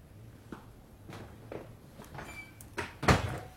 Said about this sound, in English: Shut the door.